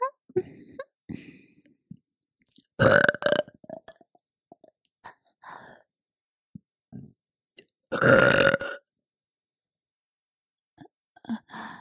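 A woman burps loudly twice, each belch long and resonant, with softer throat sounds, swallows and small clicks scattered between them and a few faint ones trailing off at the end.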